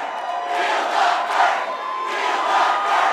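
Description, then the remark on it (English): A rowdy crowd at an Iowa caucus night victory party in a hall for Bernie Sanders cheers and shouts continuously, a dense wash of many voices that swells and dips in loudness without a break, with no single speaker standing out. “Things were getting rowdy.”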